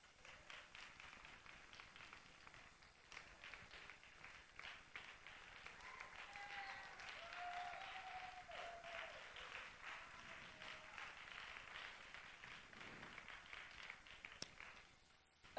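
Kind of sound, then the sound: crowd, standing ovation applause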